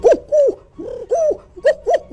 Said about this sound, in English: Turtle dove. You're right.